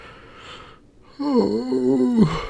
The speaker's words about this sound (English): Oh, what a big yawn. Someone worn out?